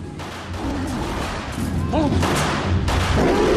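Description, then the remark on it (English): Sharp gunshots crack out at irregular intervals over a dense, noisy crowd wash, with voices murmuring and calling underneath the steady rattle of fire at a fairground shooting alley, where people wearing ear protectors shoot at animal pictures. “Joe wanders up to a shooting alley where people wearing ear protectors are shooting at animal pictures, including gorillas.”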